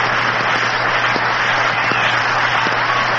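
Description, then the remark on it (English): A large stadium crowd at a baseball game roars over a double play in a loud, steady wash of cheering that holds without a break for a few seconds, with a low electrical hum running underneath. “And the crowd is still in an uproar over that play.”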